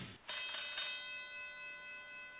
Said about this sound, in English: I hear the bell, but I don't know who's calling. Help me out.